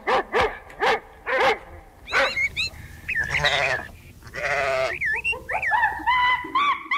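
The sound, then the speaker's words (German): Sounds of everyday life on Earth from the message carried by the Voyager 1 probe: a few short, sharp dog barks open the sequence, followed by a medley of other animal calls: bleats and high, warbling chirps, with no one speaking. “Dazu Musik sowie Geräusche vom Alltag auf der Erde. Von Babygeschrei über Verkehrslärm bis hin zu Tierlauten.”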